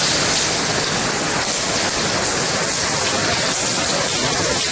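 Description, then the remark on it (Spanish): Steady, dense rain patters and splashes continuously, fairly loud, a constant hiss of water with no voices, as rainwater leaks through the roofs into the prefab classrooms of a school in Muros. “Así sonaba la lluvia filtrada en las clases la semana pasada y principios de esta.”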